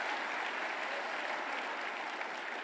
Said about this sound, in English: Put your hands together and clap unto the Lord. Hallelujah.